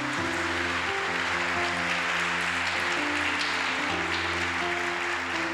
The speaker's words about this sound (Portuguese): Dá uma salva de palmas ao Senhor.